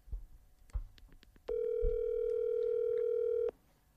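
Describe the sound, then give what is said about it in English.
A single steady electronic ring of an outgoing phone call, one flat mid-pitched tone lasting about two seconds, preceded by a few soft clicks and thumps. “See what ring he answers.”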